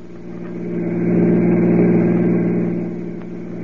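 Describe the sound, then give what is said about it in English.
A car engine revs up with a steady low hum that swells louder in the middle, then eases slightly as the vehicle drives off; no voices are heard. “Get the car.”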